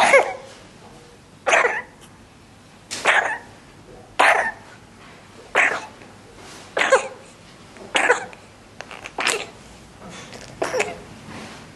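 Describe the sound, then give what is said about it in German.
An audio recording of an infant's cough that may be from RSV: short, harsh bursts, about nine of them spaced roughly every second and a half, with no one speaking. “ein erfahrener Pneumologe hört möglicherweise schon am Husten, dass es sich um einen RSV handeln könnte und wir haben hier mal eine Audiodatei und die spielen wir euch mal eben kurz vor.”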